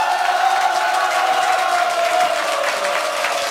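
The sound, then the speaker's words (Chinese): An audience at a talk applauds at the speaker's request, dense overlapping clapping merging into a continuous bright wash that holds an even loudness throughout, with a few faint cheers mixed in and no talking. “有帮助的话再来一点掌声我听听看，可以吗？”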